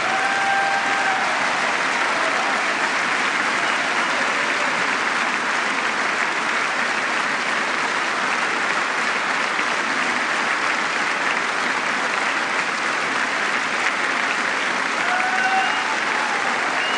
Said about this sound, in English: And members of both parties rising from their seats with that line from President Obama, the first applause line of the speech.